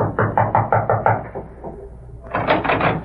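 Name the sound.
rapping on a door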